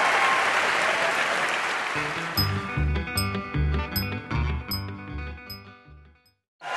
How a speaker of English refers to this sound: This week, and this is why you're clapping, it's the Wait, Wait, Don't Tell Me Morning Zoo.